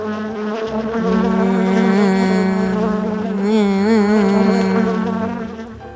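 A little bee buzzes steadily and loudly for several seconds as it flies upstairs toward Winnie the Pooh's bedroom in a children's story, its droning hum wavering in pitch as it seems to swoop past before fading slightly at the end.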